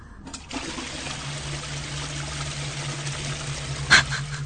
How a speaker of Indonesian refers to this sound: Terdengar suara flash toilet yang dinyalakan.